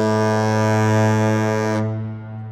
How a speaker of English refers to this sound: See those horns on the base of the bridge structure there? And so where are they? What sound comes from what? Well, there's the South Tower, which has one horn, a deep, rich, long blast.